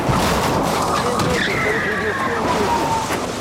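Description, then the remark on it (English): A Mercedes racing down a highway at nearly 120 miles an hour fishtails wildly, its tires giving a sustained, high squeal over loud, rough engine and road noise for a few seconds, without a distinct crash. “But his coke-fueled euphoria comes crashing down when he starts to lose control of the car. Mercedes fishtails wildly. and slams into a ditch.”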